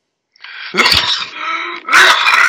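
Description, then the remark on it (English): A loud sneeze with a harsh, breathy burst of noise, followed moments later by another forceful blast, with no talking around it. “Bless you”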